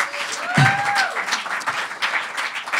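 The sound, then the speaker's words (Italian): A crowd breaks into steady applause for a 12-year-old audience member, dense overlapping claps filling the space at moderate loudness, with a faint whistle-like tone rising briefly near the start. “12, fate un applauso al futuro.”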